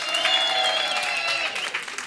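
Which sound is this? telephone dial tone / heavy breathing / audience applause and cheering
audience applause and cheering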